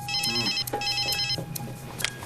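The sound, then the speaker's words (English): A telephone rings in two bursts of rapid electronic trilling, fairly loud, with a steady high tone and faint background noise between the rings, as Becca calls her mother Wendy from home. “Back at home, Becca is sitting outside with her friends, eating the party food, looking impatient, and calls Wendy again.”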